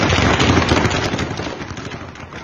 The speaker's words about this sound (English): All right, that's gunfire, and this is reportedly in the green zone. For those of you who don't know what the green zone is, this is where you have a lot of Americans. We have a U.S. embassy there. Listen to that. It sounds like automatic gunfire,